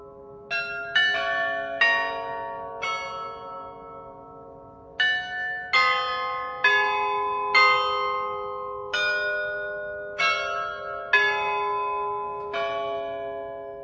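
The late-17th-century carillon of the Loreto in Prague rings out a slow melody, each struck note blooming with shimmering overtones and lingering as the next chimes in, fairly loud and clear with no voices present.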